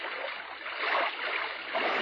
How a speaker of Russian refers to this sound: Внизу за каменным парапетом бастиона плещет Нева.